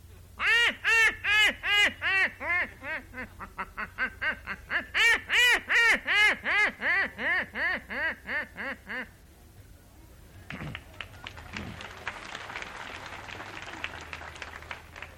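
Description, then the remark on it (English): A person's voice imitates a duck's quacking call, used as a built-in duck caller for duck hunting, loud: two long runs of rapid, rhythmic quacks that fade toward the end, then a burst of noisy clatter like applause. “And your duck caller doesn't work too good. Well, if you got a built-in job, it works pretty good.”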